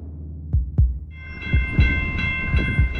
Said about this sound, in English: But every single time you hear that train, you really get a sense of just how present those trains are, how close they are. It's not something that you can escape. Every time I saw the train like this running behind my building, I feel scared now.